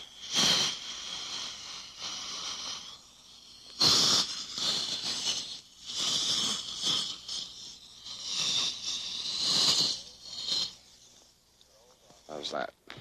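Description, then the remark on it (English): A dental suction tube, used like a vacuum cleaner to pick up the water after the toothpaste is washed away, hisses and slurps in a series of loud, uneven bursts with short pauses between them. The tone is airy and high, with no one talking. “Then we'll use our vacuum cleaner to pick up the water.”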